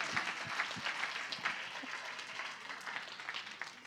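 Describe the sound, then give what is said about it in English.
A crowd applauds steadily, many hands clapping in a dense, continuous wash of sound that holds for a few seconds at moderate loudness, with no voices standing out. “Everybody, give yourselves a round of applause.”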